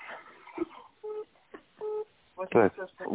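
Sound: telephone dial tone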